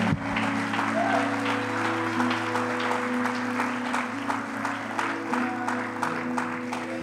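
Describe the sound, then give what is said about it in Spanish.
A church audience claps steadily and continuously as applause offered to the Lord, a dense wash of hand claps with some sharper individual beats, over a sustained low musical drone or organ-like hum. “Si usted se goza esta tarde, dele un fuerte aplauso al Señor, amada iglesia.”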